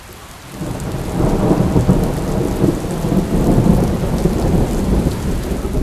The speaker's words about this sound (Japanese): 今日はね、雨を降ってます。